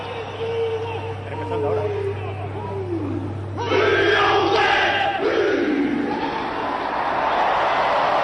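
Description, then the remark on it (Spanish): A large stadium crowd shouts in unison, each shout taken up by the whole stand, a dense roar of many voices that swells louder partway through and stays loud, with a steady low hum underneath. “Es que cada grito es colado por toda la grada.”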